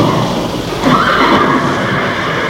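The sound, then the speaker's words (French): A single horse whinnies in a dark, stuffy stable where the horses stand together in one room rather than separate boxes, one loud, wavering neigh lasting under a second against a constant noisy, shuffling background; no one speaks. “Une odeur d'herbe séchée, d'urine, de crottin de cheval et de bête vous prenait au nez et à la bouche.”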